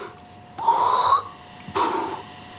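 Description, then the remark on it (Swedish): Two breaths drawn in through a rubber valve flap in a mask worn with a suit, each a hissing, wheezy rush with a whistling flutter as the flap bends on inhaling, the first longer and the second shorter, with no talking. “Så när du suger in så du hör det där ljudet av den som böjs, blupp, blupp, blupp, blupp.”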